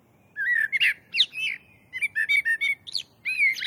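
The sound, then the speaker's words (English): A blackbird sings a run of mellow, fluting phrases in a lower register, several slow warbled notes in short bursts separated by brief pauses, clear over a faint background hiss with no voices. “The blackbird has a slower and lower register.”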